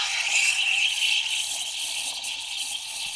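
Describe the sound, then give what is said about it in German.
An espresso machine's steam wand, heard from about 80 cm away, hisses steadily and forcefully, a continuous bright, high-pitched rush of steam with a slight rattling texture and no pauses, heard alone without any talking. “Der Espresso ist hier auch wieder.”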